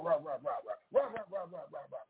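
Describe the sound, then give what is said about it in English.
A dog barks in quick, rhythmic bursts, two runs of rapid barks separated by a short pause, fairly loud. It is at a house where a delivery driver is leaving a package of dog food on the porch, and the barks grow louder as the dog comes closer. “And man, I heard, I didn't know where he was coming from, but I heard the bark get louder and louder and louder as he was getting closer and closer.”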